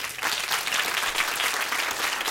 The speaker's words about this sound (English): We're talking about this different kind of charity. By show of applause, who in here volunteers?